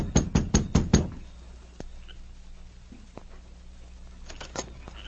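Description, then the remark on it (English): Sergeant Preston and King knocking on the door of the Evans cabin: five quick, loud raps in a steady rhythm, a long quiet pause with faint background hum, then a softer burst of three more knocks. “Within a short time, Sergeant Preston and King reached the Evans cabin and knocked at the door.”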